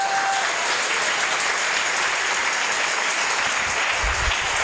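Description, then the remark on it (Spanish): Sustained applause from a large crowd clapping for the Lord fills the space, a dense, even wash of clapping that stays steady and loud throughout with no voices standing out. “Dale un aplauso al Señor de los cielos.”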